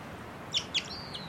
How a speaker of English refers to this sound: Bird I think might be a male. And it's giving some song now.